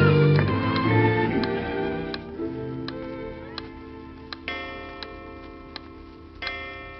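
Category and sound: household object, clock ticking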